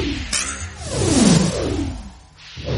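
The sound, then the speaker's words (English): A swift whoosh of an arrow flying through the air, a sharp swishing sweep that falls in pitch, followed by a softer rushing tail and a brief second swish at the end. “Draw the string. Sink the arrow. Hurry up, Sarge.”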